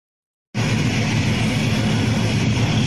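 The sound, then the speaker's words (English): After a half-second of silence, a loud, steady roar of a large yellow DHL plane carrying packages, landing, bursts in and holds, a dense rushing engine noise, with no voices. “But this guy, he brings it down, but he didn't hit the brakes long enough.”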